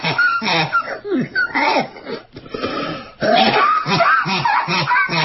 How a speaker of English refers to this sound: Here's her. This is her coughing. Listen to this.